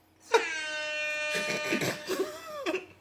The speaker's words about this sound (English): Oh, that air horn.